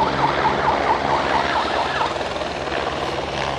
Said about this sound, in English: He's using that siren either to herd the wildebeest a bit, but he's also using it to indicate when people actually have to close the curtains.